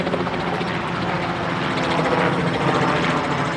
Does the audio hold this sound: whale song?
no